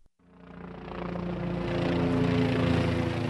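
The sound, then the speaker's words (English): A Kiowa helicopter flies overhead, searching rocky hillsides where American soldiers have just landed; its engine and rotors drone steadily, the sound swelling from quiet to a loud, continuous roar layered with a low harmonic hum over a few seconds, with no voices. “The Kiowa helicopter flies overhead like a nervous mother bird, searching the rocky hillsides for any threat to the American soldiers who've just landed here.”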